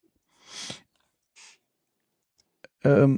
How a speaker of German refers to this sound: Man merkt direkt den Unterschied übrigens, dass wir online aufnehmen. Ich höre jemanden mit der Maus klicken.